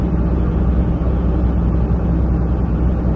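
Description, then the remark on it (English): A steady, loud low-frequency rumble of a bus engine and road noise, continuous and even throughout, from inside a bus travelling at a fairly good rate toward Hartford, with no talking. “But the bus is now moving at a fairly good rate, so the rest of the ride should be fairly quick.”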